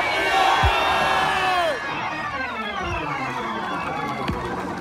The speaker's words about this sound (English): Throw both hands up as loud as you can and just scream, shake me up, God.